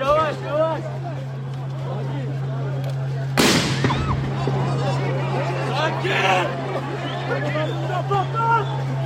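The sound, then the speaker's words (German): In a park, a single loud, sharp explosion bursts out overhead partway through, ringing briefly above a steady hum and a busy crowd murmur with voices chattering throughout. “Über uns explodieren immer wieder relativ starke Dinger.”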